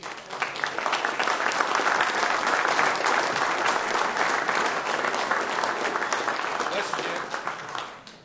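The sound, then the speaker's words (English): An audience breaks into sustained applause, a dense, steady patter of many hands clapping for about eight seconds before tapering off at the end. The audience claps to give God a hand. “Let's just give God a hand for this.”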